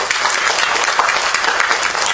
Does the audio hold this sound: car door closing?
no